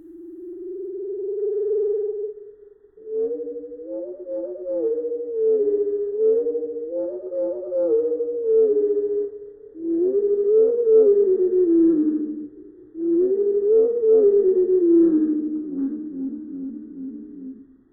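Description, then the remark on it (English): A veery thrush call slowed down into long, low, wavering tones that glide up and down in several sustained phrases, clear and fairly loud, with no voices. “And here it is slowed down.”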